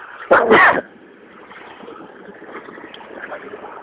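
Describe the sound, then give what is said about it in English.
A single sharp, loud sneeze onto a coat bursts out near the start, followed by a low, steady rumble of a UPS truck riding by. “Sneeze on my coat.”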